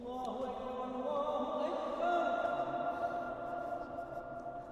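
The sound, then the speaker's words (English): A man chants a short phrase twice inside the domed stone tomb of Sultan Mehmed I (Muhammad I), about 620 years old. His voice rings out with a long, dense reverberation that lingers and blurs the tones together. “So you can hear the echo.”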